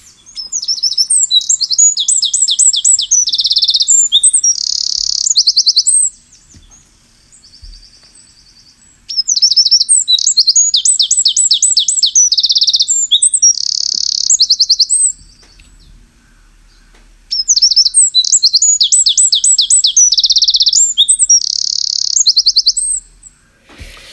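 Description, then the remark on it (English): A wren delivers three loud, energetic bursts of song, each packed with rapid trills and sharp chirps, some faster and some slower, separated by short pauses. The singer sounds clear, with no voices. “I mean, it does lots of chirping and trills, and some are faster and some are slower, but I hope people could hear clearly.”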